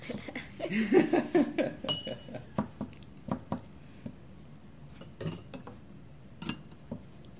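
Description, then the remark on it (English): During a coffee cupping, a spoon is run through the coffees, clinking and scraping against ceramic cupping bowls in a string of light, irregular taps, busier at first and then spaced out, with sharp bright transients over a quiet background. “So if you decide to run your spoon through 3 times or 4 times or 5 times, do it the same for all the other coffees.”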